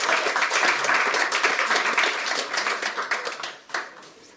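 A crowd applauds with dense, steady clapping that stays loud for several seconds, then thins out and fades, with a last small burst before dying away.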